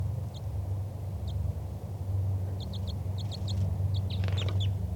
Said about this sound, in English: That was a wild bird giving flight calls. Chitter by the wild bird.